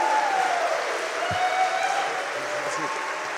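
The audience of the Vermilion Minotaur cheers and applauds steadily for the next guest, a dense wash of clapping with a few whoops rising above it.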